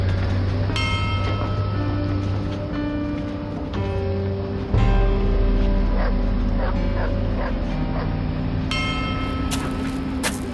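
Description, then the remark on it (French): Rescuers' search dogs barking in short, sharp bursts at intervals amid concrete dust, some yips and whimpers mixed in, over a steady low rumbling background; a faint bell-like tone rings through. “On entendait les chiens des secouristes aboyer de temps en temps, noyés dans la poussière de béton omniprésente.”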